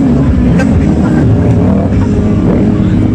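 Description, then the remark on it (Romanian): Loud, continuous engine rumble from several motorcycles at a motorcyclists' rally opening the riding season in good weather, with over 300 riders from Maramureș, Satu Mare, Alba, Bistrița, Năsăud and Bihor; throttles rise and fall in a thick mechanical drone with faint crowd voices underneath. “De 18 ani, motocicliștii se reunesc în același loc și transmit că vor fi mai prezenți pe șosele și bulevarde.”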